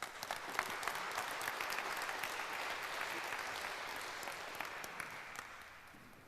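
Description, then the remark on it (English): A room full of people claps steadily for several seconds to welcome a speaker before her talk on the British drone incidents, a dense, even wash of applause that holds at a consistent level throughout with no voices standing out. “Give her a warm applause”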